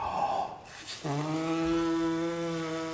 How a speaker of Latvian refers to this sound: Un šis ir galvenais skaņas sākums. Mēs ieelpojam. Pūšot ārā gaisu, tavas lūpas sāk vibrēt.